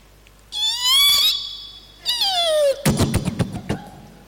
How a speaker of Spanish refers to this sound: La puerta de la cocina.